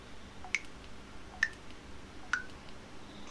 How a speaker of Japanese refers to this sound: スライダー丸、着信音の音量は 100% です丸、 着信音の音量が上下で切り替わります。